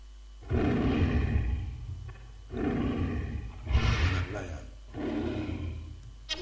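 Four loud, deep roaring bursts in steady succession, each lasting over a second with brief pauses between, powerful like a lion's roar.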